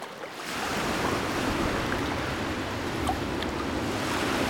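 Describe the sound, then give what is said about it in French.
Steady, full-bodied ocean surf washing onto a sandy shore as the tide comes in, a continuous roar of breaking waves with faint hissing spray and some wind, no voices present. “l'océan.”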